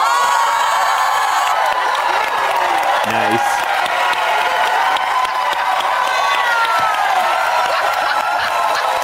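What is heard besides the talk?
crowd cheering wildly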